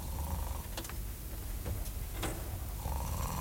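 A man snores steadily in bed, a low rumbling breath drawn in and out, with a few soft clicks between the snores.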